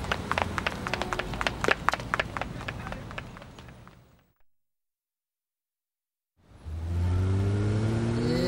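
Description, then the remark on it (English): A car engine rumbles and rattles loudly, fades away into silence, then an engine starts up again and accelerates to follow the car, its rising revving tones climbing in pitch. “Come on, let's follow the car.”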